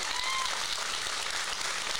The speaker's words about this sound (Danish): Jeg skal lige høre, før jeg præsenterer, hvor mange har hørt vores afsnit fra søndags. Klap lige en gang.